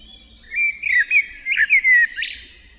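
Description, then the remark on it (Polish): A Eurasian blackbird sings a slow, mellow phrase of flute-like whistles, rising and falling, ending in a brief higher-pitched twitter. Clear, with no voices. “W powolnej i melodyjnej pieśni kosa wyróżniają się fletowe gwizdy i świergotliwe jazgoty.”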